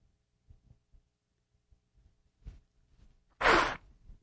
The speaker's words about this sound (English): Sorry about that. At least I don't sound like a tuba when I blow my nose.